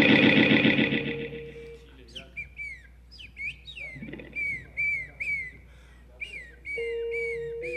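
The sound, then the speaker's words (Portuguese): A loud, harsh burst opens, then a string of sharp seagull calls follows, roughly a dozen short, piercing downward cries in quick, uneven succession. “Gaivota.”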